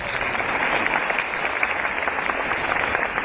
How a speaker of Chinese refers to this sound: 鼓掌。